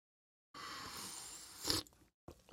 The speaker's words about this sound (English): And of course, my backup cup here is the sweet tea that's in my cup. So I'm going to take a sip of that right now.